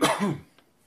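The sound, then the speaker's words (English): A single short, raspy throat clearing, fairly loud, fading out within half a second, followed by near silence with a faint click. “Take a deep breath and clear your throat.”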